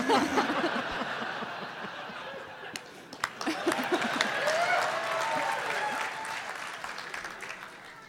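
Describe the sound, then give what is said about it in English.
A crowd in Portland bursts into sustained applause with scattered laughter after a line about asparagus; dense clapping swells and holds steady, with a few cheers and whistles rising through it before slowly tapering. “I am totally hung up on the fact that in Portland, asparagus is an applause line.”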